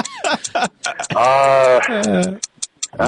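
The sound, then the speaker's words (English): A fast, steady clock ticking, crisp, briefly covered in the middle by a long, drawn-out vocal sound before the ticks continue. “And the ticking's driving me nuts.”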